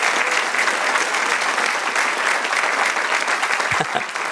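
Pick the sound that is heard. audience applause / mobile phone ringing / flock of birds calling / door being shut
audience applause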